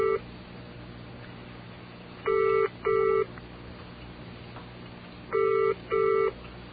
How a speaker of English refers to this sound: Oh. And the phone is ringing.